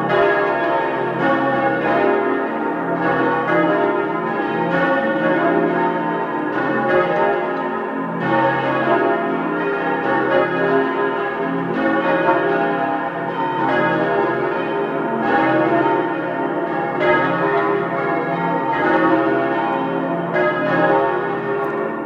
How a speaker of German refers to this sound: Es ist 12 Uhr. Sie hören die Glocken der Pfarrkirche zum seligen Pater Rupert Mayer in Oberbozen in Südtirol.